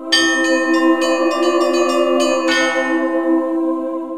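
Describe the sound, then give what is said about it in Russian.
Church bells peal for Easter in a quick, uneven run of strikes, their rich, humming tones layering into a loud sustained ring that slowly fades after a final heavy stroke. No one speaks. “Повсюду благовесть гудит, и всех церквей народ валит.”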